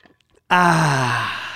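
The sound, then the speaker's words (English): A few faint, soft sounds like a quick sip of Weaver Light, then a loud, drawn-out satisfied "ahh" exhale, its pitch sliding gently downward as it fades. “Take a sip of this fine Weaver Light”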